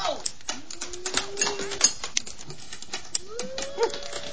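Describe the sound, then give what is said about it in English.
Rapid, irregular tapping of pencils drummed on a hard surface, crisp, with a few brief rising vocal tones mixed in. “drums with pencils.”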